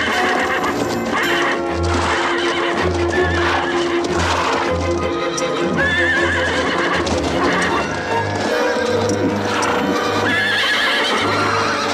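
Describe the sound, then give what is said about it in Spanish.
Several police horses neigh and whinny loudly amid a dense clatter of hooves as they stop abruptly and rear up beside a mass of men lying on the ground. A busy, agitated commotion, continuous from start to finish. “Al llegar junto a ellos, los caballos frenan y se encabritan, pero no atraviesan la masa de hombres tumbados.”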